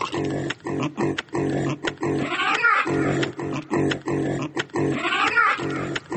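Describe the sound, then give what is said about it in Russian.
Pigs at a pig-breeding complex grunt almost without pause in a loud, crowded chorus, with a couple of higher squealing outbursts breaking through the steady rhythm. “Той свиногадовчий комплекс дає працу многим людям у новокольных вёсках.”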